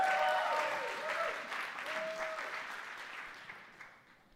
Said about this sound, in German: Danke, Team. Können wir uns beim Team auch bedanken, wo wir gerade am Klatschen sind.